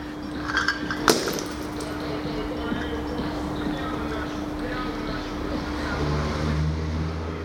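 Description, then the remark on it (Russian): Glass bottles strike the ground at a skate park where music is playing: one sharp, bright clank near the start, followed by a few faint knocks, over steady outdoor ambience with a low hum and murmuring voices. “На скейт-площадке играет музыка, а землю ударяются бутылки.”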